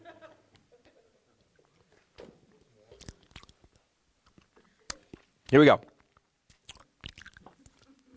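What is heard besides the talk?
sipping a drink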